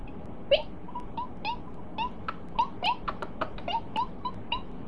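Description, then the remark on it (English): A mouse squeaks again and again, a quick irregular series of short, thin, high-pitched peeps, fairly soft, over a faint steady background hiss. “A mouse squeaks.”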